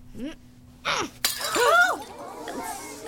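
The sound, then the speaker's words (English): A sudden, loud crash of a glass pitcher shattering as juggling balls are thrown at it, followed by a second or so of tinkling, scattering shards, with brief vocal sounds like gasps before and after. “Please observe as I throw these harmless juggling balls at this glass pitcher.”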